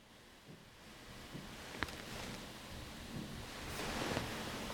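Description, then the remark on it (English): A faint, steady fizzing hiss of carbonated water with a single sharp click partway through, like a seltzer bottle being opened, the bubbling continuing quietly without any voices. “It's carbonated water, seltzer, right?”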